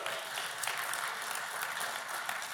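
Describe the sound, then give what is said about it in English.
A church audience at Overflow Church applauds steadily, many hands clapping at once in a dense, continuous wash of sound that stays even in loudness throughout, with no talking. “You can clap for that God has been doing that.”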